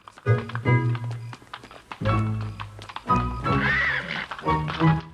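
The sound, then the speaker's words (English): The hooves of a white horse clop and thud unevenly as it is led up the front steps and into a campus building, while the horse lets out a high, wavering whinny partway through, moderately loud. “They lead the horse up the steps and go into the building.”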